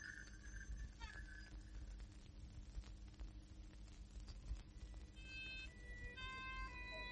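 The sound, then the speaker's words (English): An ambulance siren wails with shifting, stepped pitches over a steady low engine rumble, growing more insistent toward the end. No one speaks. “Give the ambulance some room, please. Here's your ambulance, old chap.”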